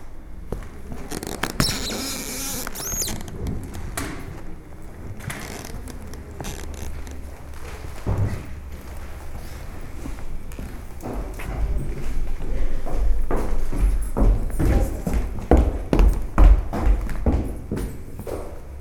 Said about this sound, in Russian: Потому что это вот боль пола. Деформированные суставы, я опять же повторюсь. Скрип пола в музее игрушки. Сергиев Посад.